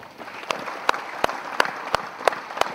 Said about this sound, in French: Je voudrais vous demander une minute d'applaudissement en guise de soutien à leur famille et d'encouragement par leur combat.